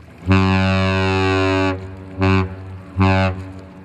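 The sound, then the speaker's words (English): A ship's horn blows one long, deep, brassy blast followed by two short ones, loud and raspy with a low droning pitch, with no voices over it. “Can you describe what a ship's horn sounds like in port or up close?”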